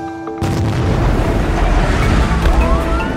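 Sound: massive explosion boom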